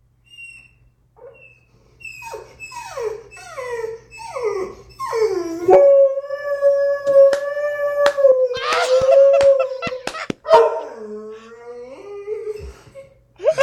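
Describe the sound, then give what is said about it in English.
A dog howls at a window, lifting his chin off the windowsill as he howls, opening with a series of short rising whimpery cries that swell into one long, wavering sustained howl, ending with a few softer broken notes. “Great because his chin is on the windowsill until he howls, and he has to pick it up because, like a dog in a cartoon.”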